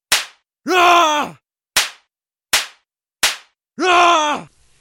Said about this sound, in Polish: A to klaskanie, co się rozlega? To żona go w gębę wali.